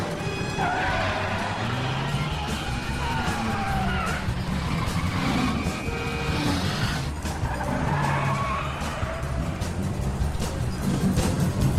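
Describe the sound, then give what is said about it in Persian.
A car engine roars as it accelerates hard, with tires squealing and skidding in sweeping, wavering screeches. The sound is loud, continuous throughout, with a dense rumble underneath. “حالا تا میتونی گاز بده.”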